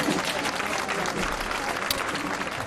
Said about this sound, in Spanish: Los aplausos tampoco podrán fundirse con el sonido de las bandas de música.